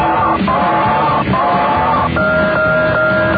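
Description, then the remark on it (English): An odd alarm clock rings loudly with sustained, buzzing electronic tones that hold and then jump to new pitches every half second or so, over a constant noisy, clamorous background. “I wondered if you'd like to hear my alarm clock. It's unusual.”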